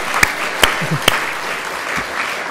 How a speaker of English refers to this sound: Okay, if you want to clap as well. Very good. Yay!